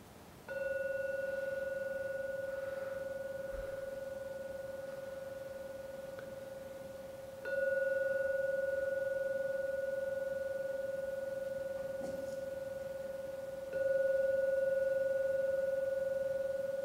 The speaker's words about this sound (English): Going to ring the gong 3 times. When the last ringing of the gong fades, that's when to come out from the meditation.